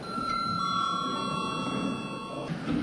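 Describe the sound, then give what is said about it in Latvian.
A chairman's bell rings at the close of an extraordinary Saeima sitting, before registration, in one steady, unbroken peal of bright, high metallic tones for about two and a half seconds, then stops, leaving a low murmur of background noise. “Lūdzu zvanu.”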